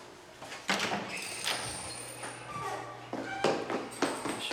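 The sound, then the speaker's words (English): A door to a stairwell opens with a series of clunks and rattles, several sharp knocks spread over a few seconds, faint creaking squeaks, and a steady low hum beneath. “He opens a door to a stairwell.”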